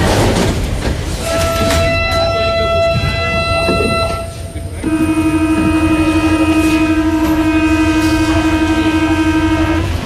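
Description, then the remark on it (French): A metro train rumbles loudly through a station, its motors whining in steady sustained tones that shift pitch midway as it moves, with a faint murmur of voices in the background. “Donc voilà, on va dans ce merveilleux quotidien, cet inaperçu et littéralement cet inouï, les Mozart du métro.”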